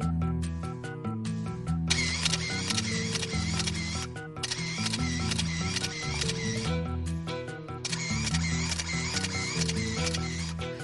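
A paparazzi-style camera shutter fires in rapid machine-gun-like bursts, a fast repeating clatter of clicks layered over steady tonal background music, with no one speaking.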